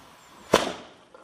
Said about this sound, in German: Zum Beispiel dieses hier, als jemand mal einen Böller bei ihm auf den Hof geschmissen hat.